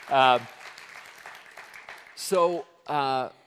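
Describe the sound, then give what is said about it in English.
A church audience at CCC claps steadily in a soft, spread-out patter, celebrating that 200 to 300 people could get baptized that day, while a few loud voiced whoops ring out over it at the start and twice near the end. “Isn't that cool? So, yeah, that's clap-worthy.”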